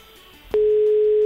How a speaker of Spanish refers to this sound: Pues estamos marcando. Estamos marcando. Esto me encanta. A ver, un segundo, que tengo que hacer aquí toda la vez. Estoy marcando. Marcando el teléfono. A ver si nos coge.